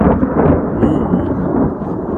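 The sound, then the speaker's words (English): A deep, sustained rumble of thunder out towards Yanks Peak rolls steadily with broad low-frequency energy, loud and continuous throughout, with no voices present. “thundering out towards Yanks Peak a fair bit.”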